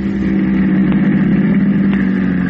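A taxi cab's engine hums steadily at a low, even pitch, rolling slowly as it pulls up in front of the door of the Combo Cafe, with faint mechanical ticks over the continuous drone and no voices.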